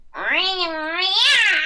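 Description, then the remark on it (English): A voice actor imitates the cartoon character Ryo Oki, a cat/rabbit/spaceship, with a single long, drawn-out cat meow, loud, with a wavering pitch that rises toward the end. “it's just this big meow cat.”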